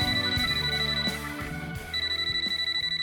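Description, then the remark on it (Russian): A mobile phone rings late at night in a bathhouse, with a bright, melodic ringtone, a short electronic tune of rapid notes that loops steadily and clearly, with no voices around it. “И вдруг раздался телефонный звонок.”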